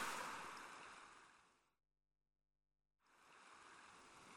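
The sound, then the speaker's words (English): A boat with oars is pushed into the water with a rushing, sloshing splash that fades away, followed by a brief silence before the watery churning starts up again, fairly loud, with no voices. “I'm putting the boat in the water.”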